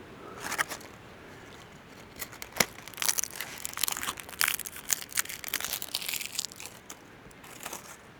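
Dry twigs and brittle debris in a dense fir forest crunch and crackle in irregular bursts, busiest in the middle stretch, with sharp snaps over a soft rustling bed and no voices.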